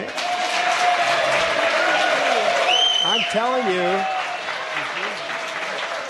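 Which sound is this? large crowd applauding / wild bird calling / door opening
large crowd applauding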